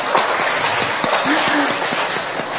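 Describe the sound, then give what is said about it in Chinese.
A church audience applauds to give praise to God, dense overlapping claps forming a continuous, even roar for the whole stretch, with a brief faint voice rising under it midway. “我哋俾掌声爱神好吗？”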